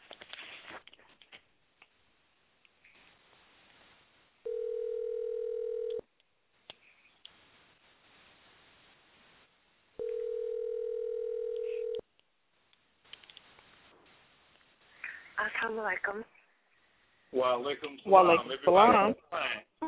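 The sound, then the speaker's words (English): A telephone dial tone sounds in two steady, mid-pitched bursts of about two seconds each, separated by a few seconds of near silence, before a voice starts talking. “I don't know what's going on with the phones”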